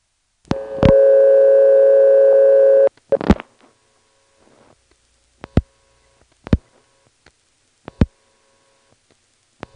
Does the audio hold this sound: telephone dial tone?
yes